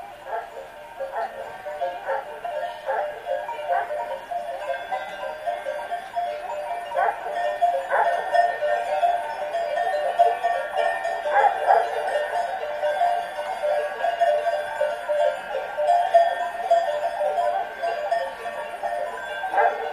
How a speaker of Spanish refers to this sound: A continuación vamos a escuchar otro rebaño, pero en este caso se utilizan cencerros. Cada cencerro tiene una afinación particular y permite reconocer a la oveja que lo porta.